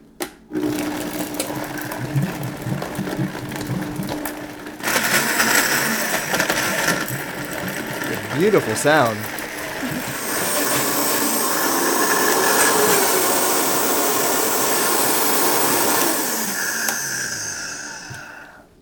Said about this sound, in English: Okay, so just a few splashes of coconut milk into the blender to help it move along when you blend it.